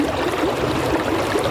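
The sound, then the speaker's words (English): Steady flowing water trickles and gurgles continuously, an even stream of babbling sound with no voices or breaks. “Yes, water.”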